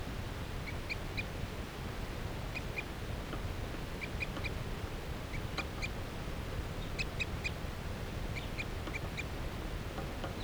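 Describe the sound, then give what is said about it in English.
A wild bird perched in a tree along a net gives short, high-pitched peeping calls, repeated in quick clusters throughout, over a steady low rumble of background noise. No one speaks. “That bird is perched up in the tree along the net.”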